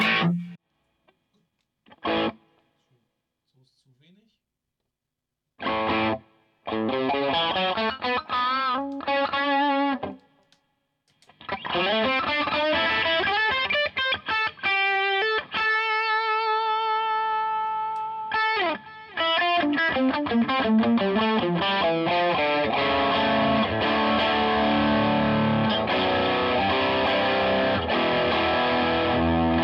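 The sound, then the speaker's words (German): Distorted electric guitar with a washy, echoing reverb tail from the amp's reverb: a few isolated stabs and pauses, then sustained chords ringing on and overlapping, fairly loud, no voices. “Da hast du ja diesen krassen Hall.”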